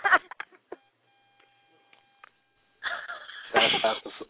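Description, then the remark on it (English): A faint, steady telephone tone with several layered pitches, dialing a three-way call, holds for about a second and a half, set between short bursts of harsh, noisy sound at the start and end. “call the motherfucker on the three-way and tell him to pick up the motherfucking phone for the 917 number”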